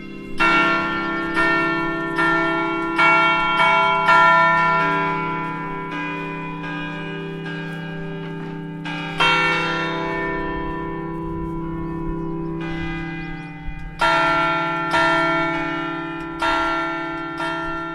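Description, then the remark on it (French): Church bells of Fontevraud Abbey peal loudly, heard in the abbey gardens right beside the newest bell, a continuous ringing of overlapping strikes with rich lingering tones, repeated clusters of chimes swelling and fading with no voices. “Et en effet, elles sonnent.”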